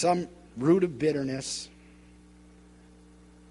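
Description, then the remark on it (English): A man's voice speaks a short phrase to a sparsely attended gathering in a roomy, reverberant space, the words trailing off into a faint lingering echo, with a steady low electrical hum underneath. “I'm hearing my voice echo all over the... I know we got a lot of people missing, but I usually don't hear this much echo.”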